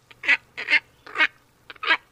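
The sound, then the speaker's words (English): Four harsh, nasal grunting calls from a heron-sized wading bird with a long down-curved bill and glossy, iridescent plumage, spaced about half a second apart, fairly loud, with no talking. “And according to the Audubon Society, they sound a little something like this.”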